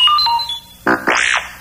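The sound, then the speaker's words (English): R2-D2's beeping page-turn signal in a read-along of The Battle at Bespin: a few quick electronic tones, then a buzzy burst and a rising-and-falling warbled whistle, loud, with no talking. “You'll know it's time to turn the page when you hear R2-D2 beep like this.”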